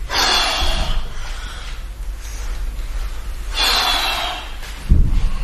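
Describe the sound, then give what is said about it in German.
Heavy, forceful breathing during an exercise session: a long rushing exhale, a pause, then another strong breath, with low thuds underneath like movement during exercise. “Hört man, wenn ich anfange, schwer zu atmen?”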